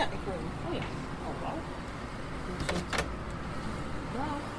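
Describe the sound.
The front door of a flat is unlatched and opened by a surprised resident after visitors ring, with a short rattle and a couple of sharp clicks midway, set against steady background noise and faint voices.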